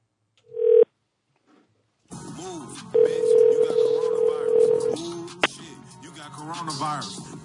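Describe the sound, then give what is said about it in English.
A short electronic phone tone, then after a pause a steady ringing tone on the line as a call is placed to a cell phone, lasting a couple of seconds, with muffled voices and background chatter throughout the second half. “What number do you think he's at? Oh, he'd be on his cell, wouldn't he?”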